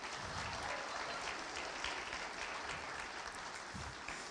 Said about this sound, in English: As soon as I started clapping, you picked it up, it fell off.